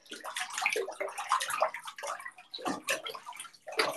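Water splashes and sloshes in a bathtub in irregular, close bursts, with brief lulls between the louder splashes. No one speaks.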